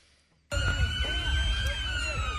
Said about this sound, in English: Sirens and response in Leicester, England. It destroyed a store and a house, which British police called a major incident.